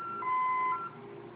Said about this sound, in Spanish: Oprima la letra A. Durante 5 segundos se va a escuchar la alarma. En cuanto suene, ingrese la clave que acabamos de dar de alta más el número 1.